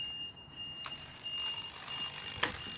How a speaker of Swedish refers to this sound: Lastbil som backar.